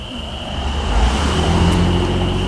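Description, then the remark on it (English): A car drives past on Thomas Road near Ithaca, its low engine and tire noise swelling and holding loud, while a thin, steady high-pitched trill continues in the background. No one speaks. “Well, a car just went by, hopefully not crushing any amphibians.”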